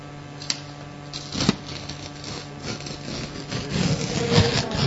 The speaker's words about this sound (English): Paper.